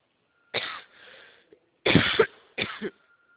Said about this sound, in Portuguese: Uma gripe, também estou assim. Uma gripe, uma tosse, não é nada.